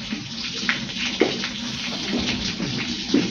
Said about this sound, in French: Une vache qui pisse, hein, on peut le dire comme ça. C'est ça.